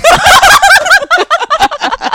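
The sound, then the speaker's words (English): A person shows off a special talent, making a loud, rough animal growl with their voice, a rapid warbling, gobble-like rattle that pulses in quick bursts for about two seconds with no words. “I can growl.”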